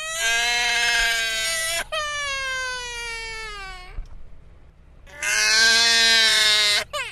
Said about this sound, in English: Imagine yourself standing inside a mysterious wooden cabin. A baby's screams fill every inch around you.